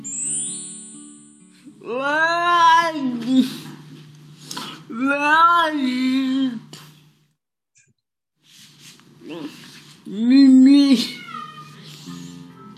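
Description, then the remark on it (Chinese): A cat meows three times to wake its owner, as it does each morning at 7 o'clock, long drawn-out calls with pauses between them, fairly loud, over a faint steady low hum. “每天，猫咪都会叫我起床，7点钟叫我起床”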